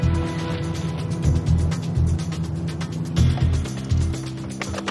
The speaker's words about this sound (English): A police car pulls up to the driveway of the Gray House.